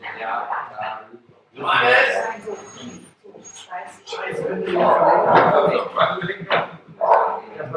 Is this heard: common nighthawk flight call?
no